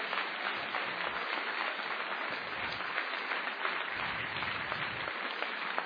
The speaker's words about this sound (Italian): Facciamo un applauso meraviglioso al Signore Gesù.